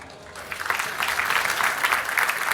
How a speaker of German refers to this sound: Und ich bitte euch jetzt den großen Applaus für unseren Speaker.